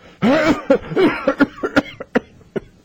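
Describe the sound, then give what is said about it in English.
A harsh, raspy smoker's cough fit, a tobacco or cigarette cough: two long hacking bursts, then a string of shorter, sharper coughs that taper off. No one speaks. “You ever heard of the tobacco cough or cigarette cough?”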